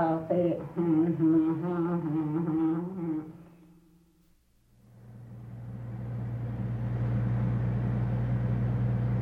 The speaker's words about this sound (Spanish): El auto trepa casi verticalmente las ásperas cuestas de la Sierra Mazateca en Oaxaca, México.